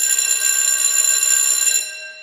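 An alarm bell, set to go off every three minutes to mark the end of each discussion, rings loudly and steadily for under two seconds, a bright, rattling metallic clang that then cuts back and fades out with a short ringing tail. No voices.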